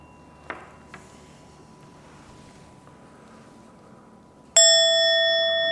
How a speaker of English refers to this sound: Okay, thank you. Can you hear that gong okay?